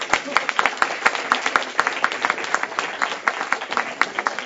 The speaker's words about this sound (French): Nous les applaudissons deux fois plus fort parce que c'est la première fois que nous avons deux représentants féminins.